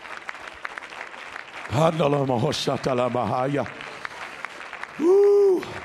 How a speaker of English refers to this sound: Come on, church. Let's clap our hands to the Lord.